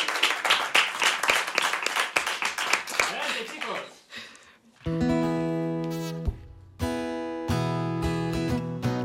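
A crowd applauds with dense, loud clapping for about four seconds, then it fades out as upbeat music with steady sustained tones starts playing.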